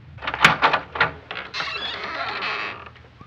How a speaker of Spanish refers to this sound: abrir la puerta y al hacerlo, miró a su primo